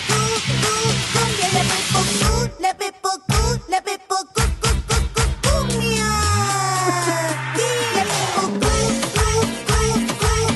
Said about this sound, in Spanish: Ok, madre bueno, la musiquita está divertida, pero oye, sí.